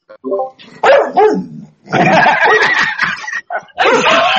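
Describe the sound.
A voice imitates a dog with a run of loud barks and yelps, several short bursts followed by longer rough stretches of barking.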